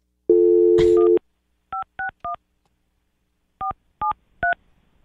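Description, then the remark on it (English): A telephone dial tone hums briefly, then keypad tones beep in two quick groups of three, clear, with no voices. “What's the over and under on him picking up?”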